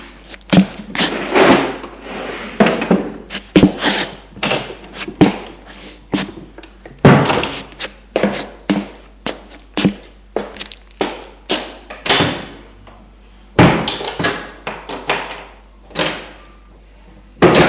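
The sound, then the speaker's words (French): In an apartment, drawers and cupboard doors are opened and shut over and over, an irregular string of wooden thunks, slides and knocks with no one talking. “Pour s'amuser, ils ouvrent les tiroirs et les placards.”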